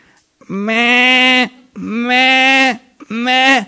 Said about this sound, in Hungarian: A cukik voltak ezek a kecskék. Voltak kis kecskék is köztük. Kis cukik, kis kecskék is voltak.